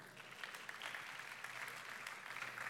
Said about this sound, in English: I mean, that sounds like a ripple of applause, but behind that ripple, there's a thunder, because that's how much you love these people.